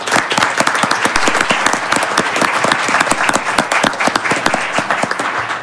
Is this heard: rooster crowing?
no